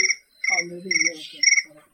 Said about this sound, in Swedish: Det lät som en gräshoppa, eller? Ja, det är fruktansvärt.